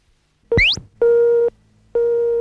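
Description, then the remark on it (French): An answering machine beep: a quick rising electronic chirp, then two loud, steady mid-pitched tones, each about half a second long, separated by a brief pause. No voices. “Aussi, si vous le désirez, vous pouvez laisser votre message après le bip sonore.”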